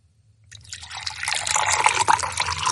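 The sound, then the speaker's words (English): Liquid pours steadily into a container, filled as close to the rim as possible without spilling over, a bright splashing trickle that starts after a brief silence and grows fuller and louder as it goes, with no one talking. “You don't want any spilling over the edge. Just shout stop when you want him to stop.”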